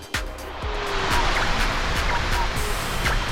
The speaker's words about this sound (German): Erkennt ihr das Geräusch? Ein Ventilator.